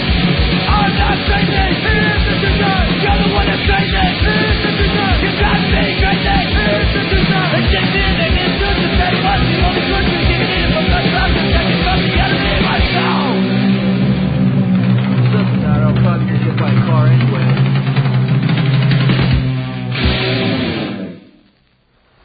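A loud, fast hardcore punk song plays, with yelled vocals over distorted guitars and pounding drums, driving steadily for about twenty seconds before cutting off abruptly.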